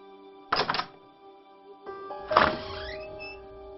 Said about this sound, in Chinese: 可就在这个时候，那寝室的门却自己缓缓地打开了一条缝儿。